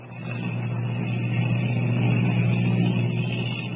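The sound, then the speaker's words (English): A steady, loud engine of a giant airplane drones continuously in flight, a low rumbling hum that swells slightly and holds, with no voices over it. “As the giant ship hurtles through the sky, Kent wonders what will be waiting for them”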